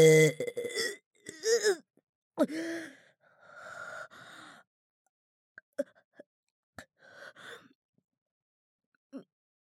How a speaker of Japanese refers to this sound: 演技じゃなくて本当にでっかいザーメンゲップ出しますよ。ちゃんと聞いててくださいね。出ちゃう。